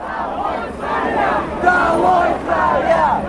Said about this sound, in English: Down with the Tsar was a chant from protesters there in Moscow.